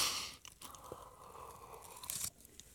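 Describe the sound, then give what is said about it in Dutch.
Someone takes a quick sip of a drink, with soft wet slurping and a faint swallow, quiet and unaccompanied by speech. “Een slokje hoor.”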